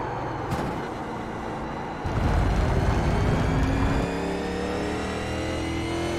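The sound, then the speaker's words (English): A loud race car engine revs hard, pitch climbing and dropping in sustained sweeps as it shifts and powers through corners, with no voices. “It's definitely very, very loose compared to, say, the Formula D cars that I've been racing this last week here.”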